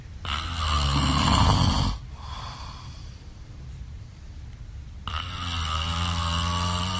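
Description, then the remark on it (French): A man snores loudly: two long, rasping, rumbling inhales separated by a quieter pause of breathing, with no talking. The snoring is Piqué asleep, as shared on social media by his partner Lindsay Vonn. “C'est pas un ronflement qu'on a pris là, non, banque de ronflement, là.”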